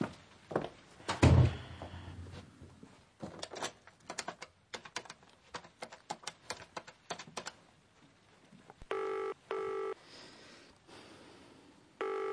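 A run of quick clicks as a phone number is dialled on an office phone, then a ringing tone sounds in short repeating bursts. No one speaks.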